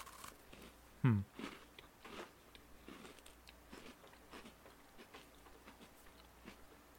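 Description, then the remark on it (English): Someone crunches into a crisp Oreo cookie with crackly, crunchy icing in one loud bite, then keeps chewing in a run of soft, irregular crackly crunches that fade to quiet mouth sounds, with no talking. “The icing, it almost has a little bit of a crunchiness to it.”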